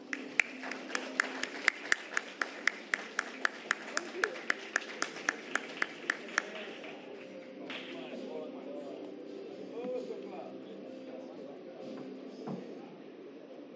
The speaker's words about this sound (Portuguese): Uma salva de palmas.